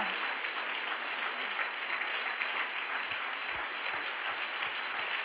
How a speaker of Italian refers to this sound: Se lo credi, dagli un applauso forte a Cristo, alla parola di Dio. Se lo credi, dagli un applauso forte, forte, forte. Alleluia. Alleluia. Se per Cristo, fallo forte questo applauso.